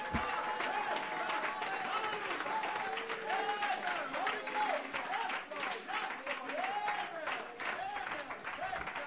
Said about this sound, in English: Y'all got an awesome man of God, an awesome ministry here that's reaching not only this community, but the world. Praise God. Why don't you give yourself a hand clap right now?